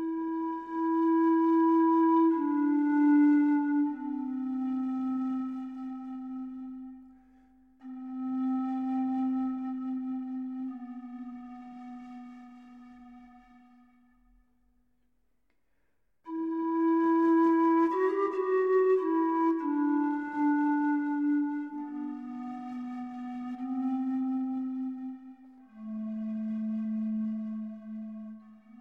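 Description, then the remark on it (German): A breathy, pure-toned pan flute plays a slow, sustained melody alone, held notes gliding between pitches, with a pause in the middle before the tune resumes at full strength. “Eine Panflöte besteht aus einer Reihe von aneinander befestigten Röhrchen aus Holz oder Bambus, mit denen je nach Länge unterschiedliche Töne erzeugt werden können.”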